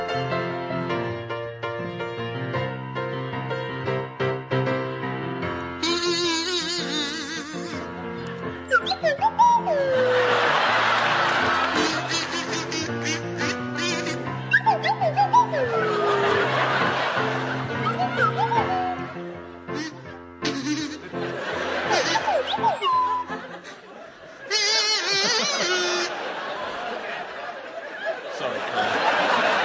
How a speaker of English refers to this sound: to feature Pippa Evans on the kazoo and Richard Osman on the Swanee Whistle.